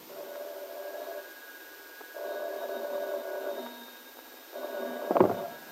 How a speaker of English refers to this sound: Now, Paul sits at his telephone. While in Ben Calvert's home, Kit hurries nervously to answer the insistently ringing bell.